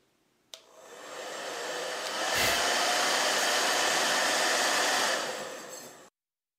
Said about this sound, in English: Weightless Professional. The Rev Air. The Dyson Supersonic Hair Dryer. And the Infinity Pro by Con Air Hair Dryer.